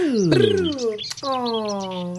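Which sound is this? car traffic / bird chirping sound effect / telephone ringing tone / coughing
bird chirping sound effect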